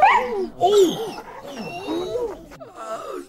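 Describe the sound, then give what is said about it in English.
A dog snarls and bites in a frantic burst, its rising and falling yelps and whining cries tumbling over one another, loud for a few seconds. “The dog turned leapt and bit hard.”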